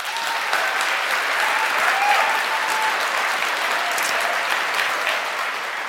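An audience claps steadily for several seconds to vote for a favourite album, a dense, even wash of many hands with a few faint voices calling out underneath.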